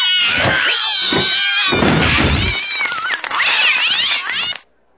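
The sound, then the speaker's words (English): A cat meows and yowls loudly and insistently for several seconds as it is put into a box, its drawn-out, wavering cries continuous before cutting off abruptly. “Behold the box of mystery. The cat goes in right here.”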